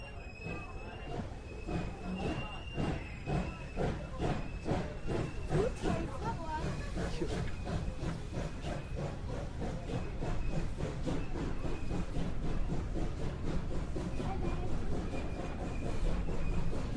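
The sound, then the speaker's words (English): A diesel train hauling tanker wagons rumbles past, a loud, steady roar with rapid rhythmic clacking of wheels over rail joints and a faint high whine throughout. “Maybe a train's on its way.”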